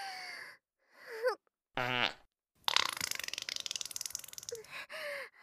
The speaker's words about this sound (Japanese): あなたの舌、気持ちよすぎておなら出ちゃった。